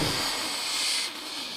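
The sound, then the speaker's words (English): A loud, continuous fizzing hiss like escaping steam fills the whole moment, bright and steady, easing slightly in intensity just before it ends. No voices are heard. “I didn't know if Joe could hear me over the fizz.”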